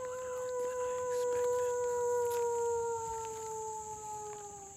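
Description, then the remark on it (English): A guide imitates a wolf howl at the Endangered Wolf Center, standing in the middle of a road in quiet woods, trying to draw the wolves out: one long, sustained call lasting several seconds whose pitch slowly glides downward, moderately loud over a steady high-pitched background drone, with no talking. “The guides kept howling back and forth, trying to draw the wolves out.”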